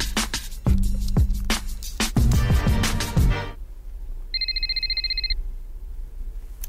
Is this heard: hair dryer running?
no